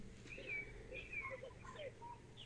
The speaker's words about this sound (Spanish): Se oye un pajarito.